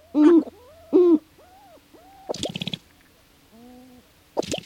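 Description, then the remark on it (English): Sharp-tailed grouse courtship display calls from a dozen males gathered closely in a rough circle on grassland in the northern Midwest at dawn: hollow, hooting coos rise and fall, two loud ones first, then softer ones, broken by bursts of rapid, crackling rattles. No voices are heard. “As dawn breaks over grassland in the northern Midwest, one of the most amazing courtship displays in the bird world unfolds. A dozen male sharp-tailed grouse, gathered closely together, face one another in a rough circle.”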